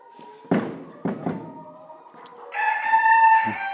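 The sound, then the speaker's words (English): A few dull knocks and shuffles in a hen house in the morning, then a little silkie rooster lets out a loud crow that holds steady for over a second before trailing off. No one speaks. “I saw a little silky crowing there.”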